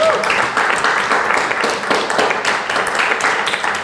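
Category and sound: crowd, audience clapping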